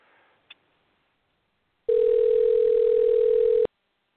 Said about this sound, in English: Something's still ringing, so I don't know if it's still his phone or what. We'll try it again.